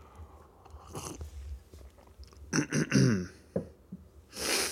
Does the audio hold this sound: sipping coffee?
yes